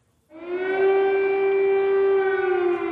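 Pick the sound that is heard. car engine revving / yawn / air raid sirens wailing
air raid sirens wailing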